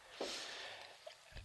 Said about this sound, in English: And you couldn't see the big sniff that he did. He did a huge sniff.